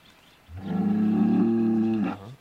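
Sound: cow mooing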